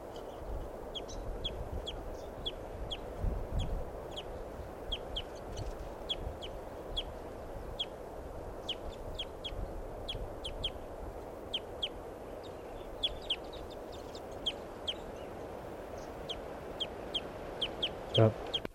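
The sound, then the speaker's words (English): A flock of crossbills perched low in the tree in the middle of the corral at Barford Park gives repeated short, sharp, high-pitched pre-flight calls, overlapping and irregular, continuing throughout over a steady low background rumble. “This is a sample of the flock's pre-flight calls.”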